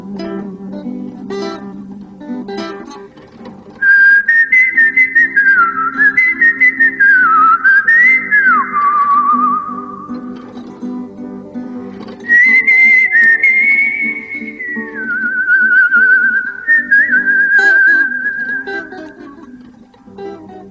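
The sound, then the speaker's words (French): A resistance hymn is whistled as a slow, clear melody in two long phrases with a short pause between, the pitch gliding and wavering, over a low, steady background of sustained tones. “avec, je dirais, le deuxième hymne peut-être de la résistance”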